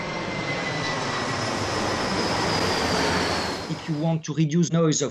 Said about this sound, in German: Wenn Sie den Lärm verringern wollen, der von einer Flugzeugturbine ausgeht, dann ist das nur mit einer Metaoberfläche möglich.